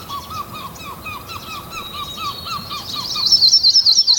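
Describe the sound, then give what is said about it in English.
A chorus of tree sparrows, white-crowned sparrows and redpolls singing together at Timber Lake in the western boreal forest, with steady repeated whistled notes and chirps that build into louder, high trilling near the end, with no one talking. “These are tree and white-crowned sparrows, red poles, brown squirrels.”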